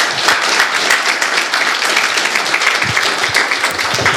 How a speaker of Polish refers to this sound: dajmy mu oklaski.